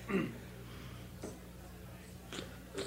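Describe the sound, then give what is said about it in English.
An elderly woman blows her nose quietly, with three short, breathy bursts spaced about a second apart over a low background hum. No one speaks. “I think I have to pause to blow my nose,”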